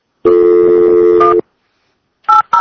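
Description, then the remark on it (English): A sustained, steady phone-line tone sounds for about a second, then after a pause two quick keypad beeps follow in succession, clear, with no voices. “I'm digging these new phone lines. You like that?”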